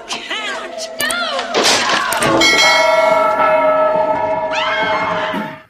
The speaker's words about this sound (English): Hit that notification bell. Not that bell. This bell.